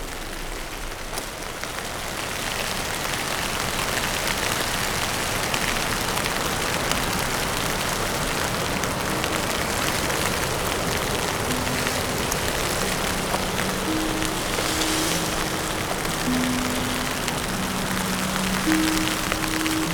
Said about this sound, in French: Dans cette petite averse type bourrasque que je vous laisse aider de mon parapluie pour me protéger des rafales du vent. Et vous faire écouter ces grains de neige.